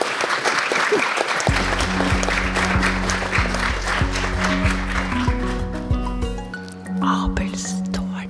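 A crowd claps loudly and steadily, a dense wash of hand claps that carries on for several seconds. Soon a low, sustained musical tune begins playing underneath the applause.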